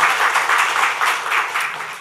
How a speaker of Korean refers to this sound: 큰 박수로 두 분 환영하겠습니다. 환영합니다. 잘 오셨습니다.